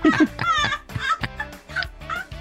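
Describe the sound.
A person mimics a chicken, producing a quick run of loud, nasal clucks and squawks, several short bursts in an uneven rhythm.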